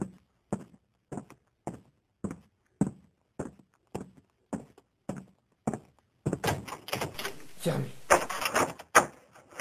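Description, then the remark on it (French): Someone tries a locked front door in a village: a steady series of thuds, like approaching steps, then a burst of loud rattling and jolting as the door is shaken but stays shut. “On aurait dit la porte d'entrée.”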